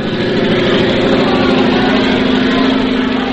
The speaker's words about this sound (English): Louis Blériot, the French flyer, is crossing the channel in his aeroplane. Oh, I say. Come now, you're pulling my leg. No, not at all. There he is.